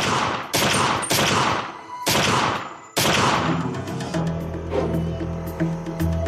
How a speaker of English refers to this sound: Montgomery panicked and fired seven shots into the car.